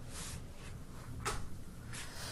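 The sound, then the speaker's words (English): Someone closes their own door once, with a brief, muffled knock partway through, fairly quiet, set against a steady low hiss with no voices. “close my door.”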